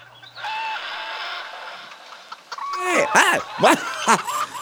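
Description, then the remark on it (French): A steady electronic drone gives way to a burst of sharp, rising-and-falling synthetic clucks from electronic hens, several in quick succession, loud, like hens squawking. “C'est des poules électroniques, c'est pour ça.”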